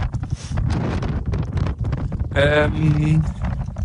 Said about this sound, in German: Oh Mann, dieser Wind hier ist auch, macht einen verrückt, wenn man einen Podcast aufnimmt und laufen will.